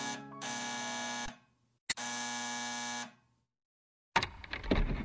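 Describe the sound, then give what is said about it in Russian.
An electric doorbell of a second-floor apartment in a multi-storey building, its button pressed, buzzes twice, each harsh, steady ring lasting over a second with a brief click between them, followed by a burst of scraping, rustling noise. No one speaks. “и мой палец прилип к кнопке звонка.”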